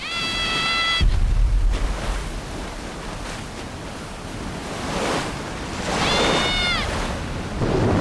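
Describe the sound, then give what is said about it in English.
Stormy sea waves surge and crash constantly around a boat at night as lightning flashes, with a deep, booming rumble of thunder early on and a shrill whistling tone that cuts in briefly twice. “The lightning flashes on Dan as he bobs amongst the waves.”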